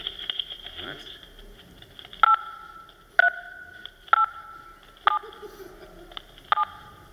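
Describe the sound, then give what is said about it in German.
Telephone keypad tones pick out a short Tetris-style melody: five distinct beeps of varying pitch, roughly a second apart, over a faint steady line hiss. “Also wir haben jetzt eine ganz normale Telefonverbindung. Das hört man jetzt. Und jetzt tippe ich mal Tetris.”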